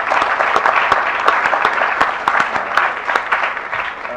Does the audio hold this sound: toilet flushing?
no